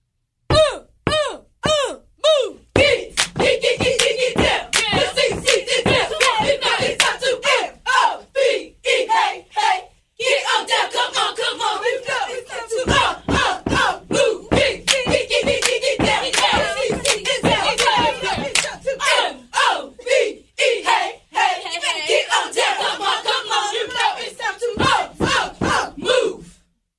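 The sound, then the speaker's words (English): The Charlotte Ultimate Cheer squad shouts rhythmic chants in unison, punctuated by sharp claps and stomps in a steady beat, loud, with brief pauses between chant sections, performing in the Power 98 radio building on Cheerleader Friday. “That's right, it's a Cheerleader Friday, and in the building, we got Charlotte Ultimate Cheer getting ready to do their thing.”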